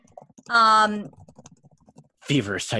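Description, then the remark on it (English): Quick, light typing clicks on a computer keyboard patter rapidly for about a second, fairly faint, sandwiched between bursts of voiced vocal sound before and after. “Feverish typing.”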